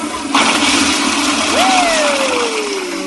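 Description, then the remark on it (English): A toilet flush roars in suddenly and keeps rushing loudly for a few seconds, with a thin whistling tone sliding downward partway through. No one speaks. “Let's flush the store bought costumes. Flush them. All right. There they go.”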